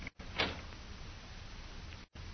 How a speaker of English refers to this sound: I'll open the door.